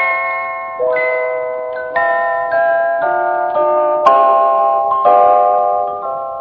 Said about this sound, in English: And so, of course, it's wedding bells. They sound very pretty, don't they, my dear?